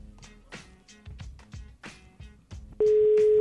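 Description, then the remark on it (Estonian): A steady, loud telephone ringback tone of an outgoing call to a person whose birthday was yesterday starts abruptly near the end, a single unbroken electronic hum ringing over a faint, rhythmic thumping background. “No, kaks korda lasen veel kutsuda ja siis ei ole midagi teha.”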